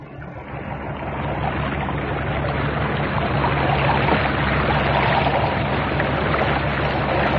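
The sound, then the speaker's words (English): A boat engine drones steadily over churning water as the boat heads in to an island and pulls in alongside another boat already there, swelling slightly; no voices, just a continuous, fairly loud wash of motor and splashing. “There's a boat there already. I'll put in alongside it.”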